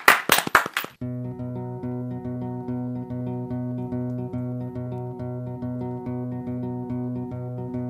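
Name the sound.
applause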